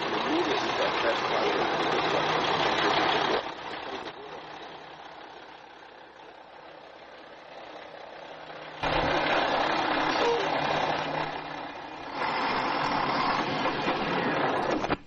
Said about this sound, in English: Could hear the engine rev when he watched it.